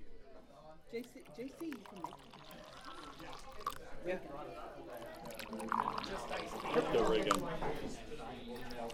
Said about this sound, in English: Now we're pouring some tea.